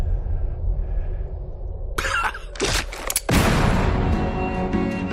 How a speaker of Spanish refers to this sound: Empezamos bien. Estamos a tiros. Hombre, como buen western, ¿no?